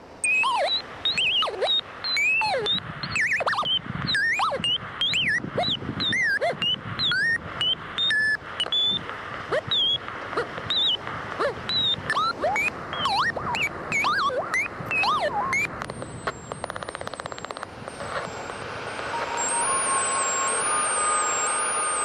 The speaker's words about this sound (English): Domestic Weather Experiment 1, High Winds and Hairdryer.